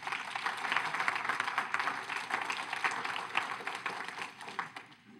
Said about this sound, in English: That deserved a much louder clap than that.